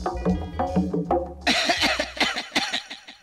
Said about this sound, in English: What a lot of coughing.